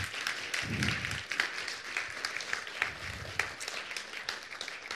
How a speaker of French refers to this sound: On peut peut-être l'applaudir, non? Alléluia.